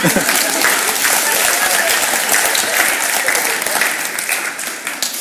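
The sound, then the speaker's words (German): Steady, dense applause from an audience, loud and sustained throughout with countless overlapping claps, tapering slightly near the end. “Er braucht jetzt einen Applaus.”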